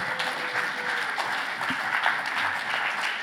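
Steady, dense applause from a crowd, many hands clapping at once in a continuous even roar with no individual rhythm, holding at a fairly loud level throughout.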